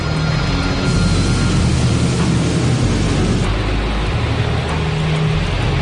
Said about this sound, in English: Justin maneuvers to get the plane down into drier air.